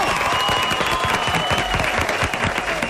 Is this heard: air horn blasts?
no